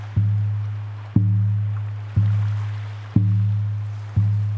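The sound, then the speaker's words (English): A field recording of deep, booming drumbeats landing in a steady rhythm about once a second, each ringing out before the next, over a faint wash of crashing waves. “The circular projection in the eye is set to the sound of crashing waves with a rhythmic drumbeat, field recordings that I made for this piece.”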